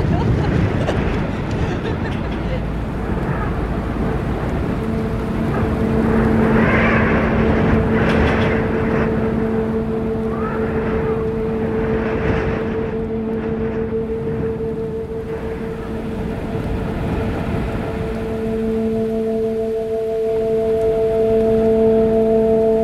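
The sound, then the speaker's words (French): Strong wind whips loudly and steadily around a boat at sea amid energetic waves, rising in gusty surges, with a low droning hum running underneath throughout. “Plus parce que j'ai le vent qui fouette dans la guêpiche.”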